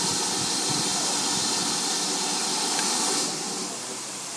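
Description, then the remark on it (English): A steam locomotive sits idling before departure, venting a loud, steady roar of hissing steam that eases slightly toward the end, heard out the window of a train compartment one back from the engine. No one speaks. “Don't know what that is, but anyway, that's the engine sorting itself out, I guess.”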